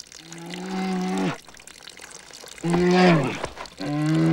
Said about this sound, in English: A grizzly bear. It rises.